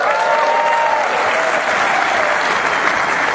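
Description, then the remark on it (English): A big audience claps steadily for a few seconds after being asked to applaud, a dense, loud wash of many hands with a faint whistle or cheer drifting over it, sustained without pause. “There are a few people out there. Can you applaud?”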